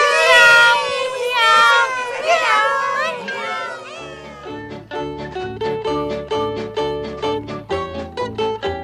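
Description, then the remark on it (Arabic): Several drawn-out, wavering cat meows, likely a voice imitating a cat, fill the first few seconds, then give way to bouncy rhythmic music with a steady bass beat. “مياو.”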